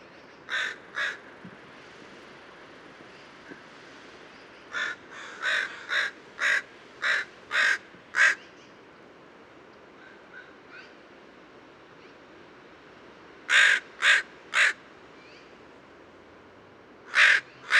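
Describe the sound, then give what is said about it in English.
A crow caws repeatedly in short, harsh bursts, grouped in runs of two to six calls with pauses between, clear over a soft background hiss with no talking. “This is the same bird as the last pilot.”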